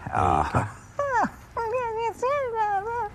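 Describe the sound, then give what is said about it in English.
A person imitates a dog whimpering: a series of four or five high, wavering whines, each sliding up and down in pitch, with short pauses between them. “You can almost hear the dog purr.”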